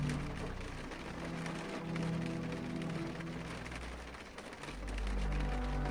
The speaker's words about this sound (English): Why is the rain so relaxing? I don't know.